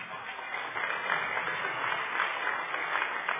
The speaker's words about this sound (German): Euer Applaus.